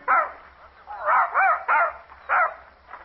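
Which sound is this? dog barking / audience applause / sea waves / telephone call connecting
dog barking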